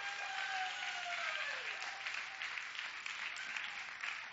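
A church audience claps steadily, a dense, continuous wash of applause that holds at an even level for several seconds, with a faint high tone sliding downward early on.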